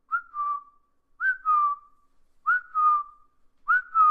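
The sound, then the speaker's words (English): Someone whistles a cuckoo call, meaning that someone is crazy: a two-note falling phrase repeated four times in a steady rhythm, mid-pitched and clear, with short pauses between and no talking. “That means you're crazy. It means you're cuckoo.”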